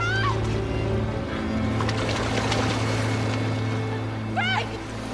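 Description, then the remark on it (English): Waves splash and wash continuously over wet, jagged rocks above a steady low droning hum, with brief high warbling calls rising at the start and again near the end. “He climbs down on wet, jagged rocks. Waves splash.”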